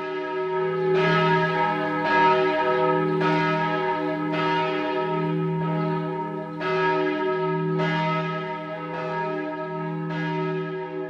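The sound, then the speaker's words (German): Church tower bells of St. Peter in Zurich's old town peal continuously, with overlapping strikes roughly every second and a deep humming resonance beneath, loud and full with no voices present. “Und während die Turmuhr noch am Ausläuten ist”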